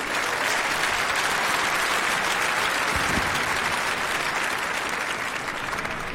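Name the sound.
audience applause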